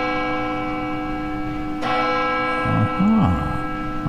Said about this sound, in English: For whom, Michael, does that bell toll?